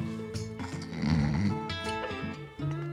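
A man snores loudly with his head on a table beside an empty whisky glass and a half-empty whisky bottle, in a dim, deserted room with wooden chairs; a rough, rattling inhale swells in the middle before easing off, then another breath starts near the end. No one speaks.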